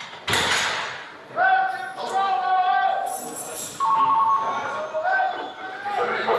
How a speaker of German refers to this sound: Die Tür der Haftanstalt schließt sich, die zu einer anderen, einer neuen Welt öffnet sich für viele.